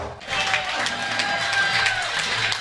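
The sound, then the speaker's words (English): A lively crowd at Duffy Sports Grill in West Palm Beach, Florida cheers and applauds steadily after Jacob Young's first Major League home run for the Nationals, with scattered whistles and shouts rising over a dense wash of clapping, loud throughout. “And they're still cheering. The crowd is cheering here at Duffy Sports Grill in West Palm Beach, Florida.”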